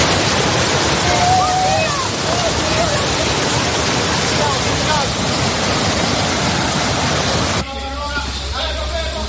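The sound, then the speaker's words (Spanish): Loud, steady roar of rushing floodwater from torrential rain in the Emilia-Romagna region of northern Italy fills the first seven seconds, churning, with faint voices mixed in; then the water drops back and a person talks over it. “sino también lluvias torrenciales, como las que están sufriendo ahora mismo en el norte de Italia, en la región de Emilia-Romagna.”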